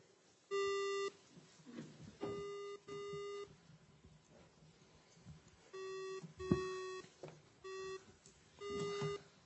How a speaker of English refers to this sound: Is that all the beeps?